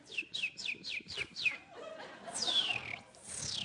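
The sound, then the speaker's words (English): A person whistles a bird-call imitation: a quick run of six sharp, descending chirps, then two longer sweeping whistles sliding downward, clear over a faint background murmur. “I used to do that when the kids were studying in January, and they didn't know where the bird was coming from”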